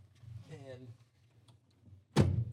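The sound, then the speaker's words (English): A van door slams shut once, loud, with a solid heavy thud near the end, after a stretch of quiet rustling and a brief muffled voice. “Let me get these doors shut now.”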